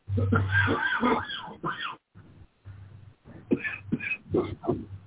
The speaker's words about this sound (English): See, somebody has a serious cough in the background. What does that tell you? You can hear them.